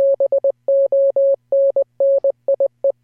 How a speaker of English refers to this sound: I actually put in fart face. Why are you so mean? Because somebody who knows Morse code was like, he said fart face.